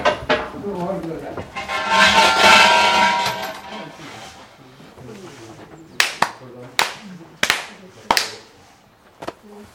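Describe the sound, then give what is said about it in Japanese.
Murmured voices and background noise give way to a short series of sharp, loud ritual hand claps at a Shinto shrine, following the two bows, four claps, one bow form of worship, each clap crisp and separated by brief pauses. “二礼四泊一礼。”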